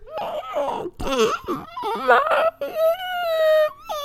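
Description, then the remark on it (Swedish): A voice imitates how a girl screamed during a nightmare, as if someone held her mouth while she tried to scream: a muffled, strangled series of choked, wavering high-pitched cries that end in a long strained whine, with no clear words. “Som att någon höll för hennes mun och hon försökte skrika.”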